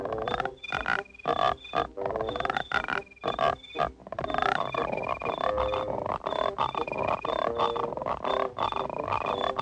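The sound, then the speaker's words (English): A chorus of frogs on lily pads at a pond at dusk croaks in dense, rhythmic bursts, loud, with steady high chirping from crickets rubbing their legs together running underneath throughout. “Several more frogs stand on lily pads around the first frog. The frogs hunch down.”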